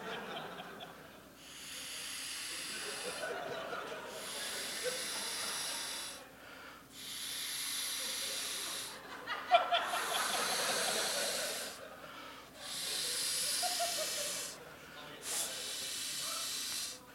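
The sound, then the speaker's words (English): A ball being inflated in a theater at South By before being knocked into the crowd: six long, steady hisses of rushing air, each about two seconds, separated by short pauses in an even rhythm, fairly loud and breathy. “I'm going to blow this up and then I'm going to knock it into the crowd.”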